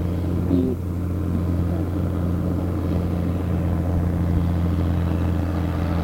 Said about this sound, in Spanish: Ahora viene otro coche.